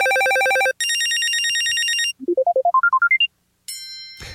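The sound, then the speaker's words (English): A quick sampler of business-friendly electronic phone ringtones from RCPtones: a pulsing warble, then a steady trilling ring, a rising stepped run of beeps, and a bright chime-like tone at the end, all loud and clear with no talking. “Let's listen to their sampler, give you kind of an idea of the more of the business-friendly ringtones that they provide.”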